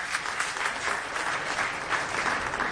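Steady audience applause for a female singer at a cantorial music concert, a dense wash of many hands clapping at an even, sustained level throughout, with no speech over it.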